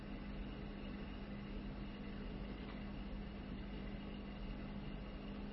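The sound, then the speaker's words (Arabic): A steady, low engine drone holds without a break for several seconds, the constant hum of aircraft engines of planes that came to rest in the Tabas desert in Iran, fairly loud with no voices over it. “طائرات جتي قعدت في مكان حتى تستريح وتبدأ الحركة الثانية في صحراء طبس”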